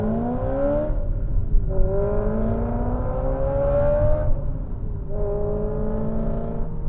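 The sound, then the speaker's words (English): A BMW's engine revs hard through rising gears, dropping in pitch between pulls as it brakes and downshifts for a corner behind traffic, loud with a steady rumble underneath and no talking. “Oh, he's got traffic in front of him too. Braking. Oh, come on, man. Do it. Downshift. Downshift.”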